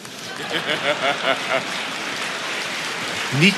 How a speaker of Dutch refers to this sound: Niet klappen, dat gaat van mijn tijd af.